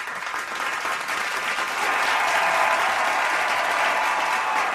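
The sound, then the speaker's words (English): Steady applause from a crowd, a dense patter of clapping that holds at an even level for several seconds and swells slightly midway, with no voices over it. “Not much of an applause.”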